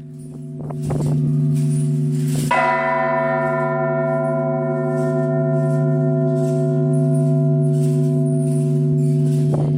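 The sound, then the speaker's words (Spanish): Church bells ring out loud, a big strike around two seconds in leaving a long, rich, humming resonance that sustains steadily to the end, with no voices present. “Todo entraba en el lenguaje de las campanas. Las campanas marcaban el paso del tiempo desde el amanecer hasta el anochecer.”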